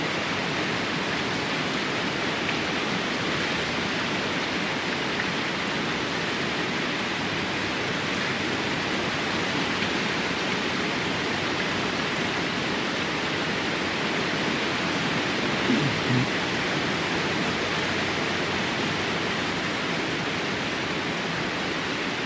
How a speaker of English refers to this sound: I'm in a metal structure, so the rain is amplified exponentially. I start looking outside, and all I can see is lightning and lightning and lightning, and all I can hear is what sounds like a train.